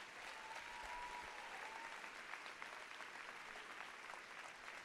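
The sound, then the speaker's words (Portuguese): An audience applauds Jesus steadily, a dense wash of many hands clapping together at an even, sustained level with no pauses throughout. “Quem crê, aplauda Jesus.”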